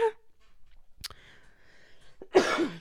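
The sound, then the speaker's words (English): Someone clears their throat with a couple of short, sharp bursts, then lets out a louder, raspy cough near the end. No talking. “I got to work these lungs out for you guys.”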